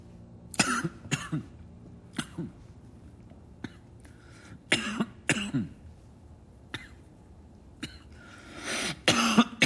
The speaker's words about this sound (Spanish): comienza a toser.